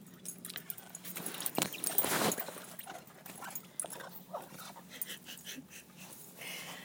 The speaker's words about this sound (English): We now have a yellow Labrador, and he's in his crate, and he's got the squeaky ball. I threw it in the crate to see what he would do.